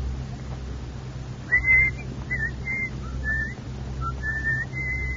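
Someone whistles a short tune, a string of clear notes rising and falling in pitch, moderately loud over a steady low background hum, with no talking.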